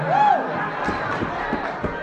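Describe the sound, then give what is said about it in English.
A church audience of women cheers loudly after the preacher says women need not submit to men just because they are men: high-pitched voices rising in a sustained crowd roar with a shrill whoop near the start and a few sharp claps or thumps scattered through. “Women, I know that's only the sisters cheering.”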